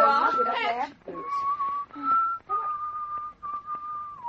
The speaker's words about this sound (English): He's whistling Home, Sweet Home.